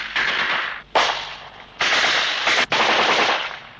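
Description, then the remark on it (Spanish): Several sustained bursts of rapid machine-gun fire, harsh and loud, each lasting about a second, separated by brief pauses with no voices. “Espero que sean balas nacionales y no francesas”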